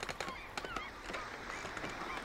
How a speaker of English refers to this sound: And I thought maybe that sounds like a ship, but you've really got to add seagulls. And I'm not sure these are my seagulls or commercial seagulls.